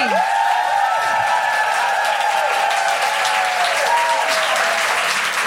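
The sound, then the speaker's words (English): A live audience claps and cheers for a guest in sustained, dense applause that stays loud and steady throughout, with a few whistles and whoops rising over the clapping. “Can I have a huge round of applause for the incredible Cindy V?”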